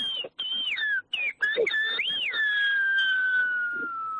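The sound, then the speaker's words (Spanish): A man whistles the phrase "feliz Día de Canarias" (happy Canary Islands Day) in whistled speech, a loud, piercing tone that glides up and down in several segments with brief breaks, ending in one long, slowly falling note. “Muy bien, si quieres, hombre, ya que estamos cerca del Día de Canarias, te voy a silbar feliz Día de Canarias.”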